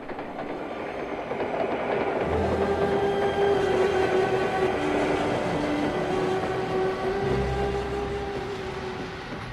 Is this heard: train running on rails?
yes